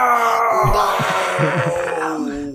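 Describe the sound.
A woman wails and screams in anguish after Trump got elected, a loud, sustained, quavering cry that carries on unbroken for a couple of seconds, strained, with no speech alongside.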